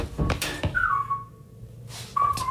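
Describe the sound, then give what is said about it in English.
A man whistles a short melody, clear sliding notes in two phrases separated by a brief pause, with a few sharp percussive hits near the start. “And even the guy who whistles in …'s record.”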